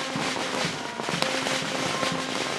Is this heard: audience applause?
no